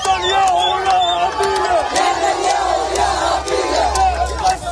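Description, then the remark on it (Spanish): A large crowd shouts and cheers in jubilation in the streets of Jan Yunis, in the south of the Gaza Strip, greeting news of the Israel–Hamas agreement to begin the first phase of the Gaza peace plan, many voices overlapping in a loud, continuous roar with rising, high-pitched calls and yells cutting through throughout. “Así, con gritos de alegría, se ha recibido la noticia en las calles de Jan Yunis, al sur de la franja.”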